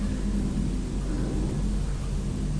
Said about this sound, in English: Oh, it's the man driving the truck that's getting out to lift up all the bin bags.